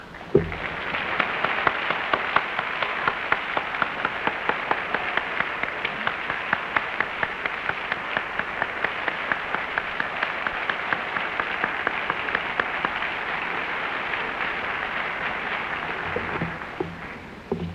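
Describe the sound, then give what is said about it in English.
A large convention audience at the Hugo Awards breaks into a round of applause for the people who worked on the convention. Dense, steady clapping holds at an even level for about sixteen seconds before stopping abruptly, with no voices heard. “So if all these people that worked on the convention could please stand, I personally would like to give them a round of applause.”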